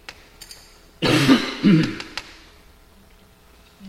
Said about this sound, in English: Also, just as a side note, for everybody at home wondering about all my coughing, oh my God, he's dying. No, it's the allergies. I get it since I've been 12 years old every year at this time, and I'm just drinking lots of water